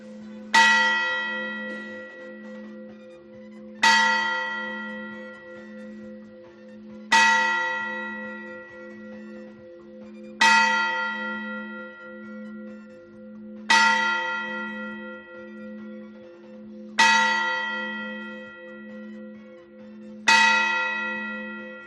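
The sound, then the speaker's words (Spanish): A church tower's hour bell, a bell with no name, tolls seven slow, evenly spaced strikes, each loud clang ringing out and decaying into a lingering hum before the next. No voices are heard. “Esta campana no tiene nombre, se conoce como la campana de las horas.”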